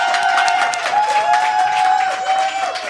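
Steady crowd applause at a live Week-end Radio morning broadcast from the Éco Café Le Bourgneuf: many hands clapping in a dense wash, joined by a few sustained whistles or cheers riding above it, loud and continuous throughout.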